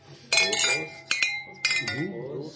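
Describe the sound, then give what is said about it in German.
Milk glasses clink together three times in a toast at a milk bar, bright ringing tones that linger between strikes, clear, with faint voices murmuring underneath. “Und wir haben ja unser eigenes Synchronisierungsgeräusch. Prost, Prost.”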